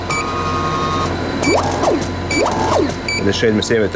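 Laboratory equipment at Cellox Labs, where samples are analyzed, hums steadily at a low pitch, while a motor whirs up and down twice in rising and falling sweeps, with faint high beeps and mechanical clicking over the drone.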